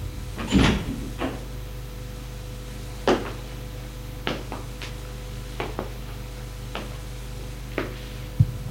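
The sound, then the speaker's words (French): A bedroom door is shut amid a series of sharp clunks and clicks, the loudest near the start, then lighter knocks spaced out over a steady low hum, with no one speaking. “Une fois la porte fermée,”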